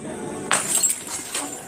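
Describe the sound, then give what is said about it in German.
A sudden crash as a few glass bottles are dropped and break, with bright clinking shards and a few smaller rattling impacts trailing off afterward, moderately loud. “Ich glaube, da sind ihm ein paar Flaschen runtergefallen.”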